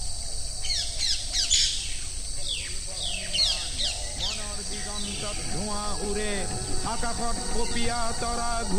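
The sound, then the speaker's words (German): A dense chorus of many thousands of birds calling at once in the wide grasslands and wetlands of Kaziranga National Park, with chirps, harsh caws and whistled notes overlapping continuously over a steady insect-like hiss. “So etwa könnten die weiten Graslandschaften und die Nassbiotope im Kasiranga Nationalpark mit ihren Abertausenden von Vögeln ohne Brahmaputra sein Wasser und seinen Nährstoff nicht überleben.”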